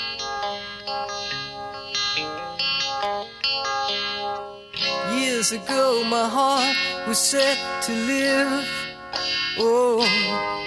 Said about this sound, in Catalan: També incluïa alguna balada, com aquesta magnífica …